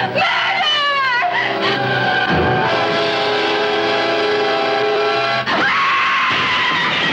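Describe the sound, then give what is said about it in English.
A woman screams at night in Paris in a long, shrill, panicked, sustained wail that wavers in pitch, loud and unbroken for several seconds before a brief catch and a final rising cry. “A woman's scream pierces the night, shrill with sheer panic, and then silence, the silence of death.”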